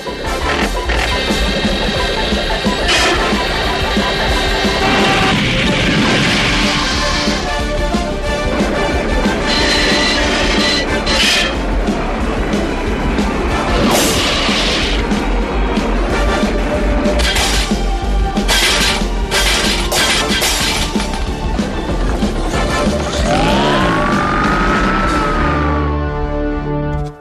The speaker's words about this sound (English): And now we will test the pussycat under heavy stress. And now we put the simulator up to full power.